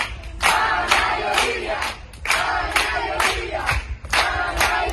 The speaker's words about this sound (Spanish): Ayer ciudadanos de todos los rincones de Canarias se sumaron a un aplauso masivo para mostrar su apoyo a la familia de las niñas.